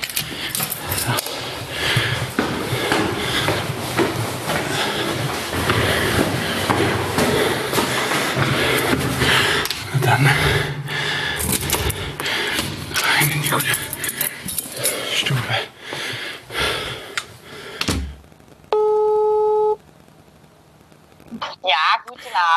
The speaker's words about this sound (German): So, dann Schlüssel raus, Tür auf, na komm.